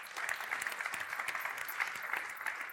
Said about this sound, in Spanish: Pero bueno, un aplauso para él también.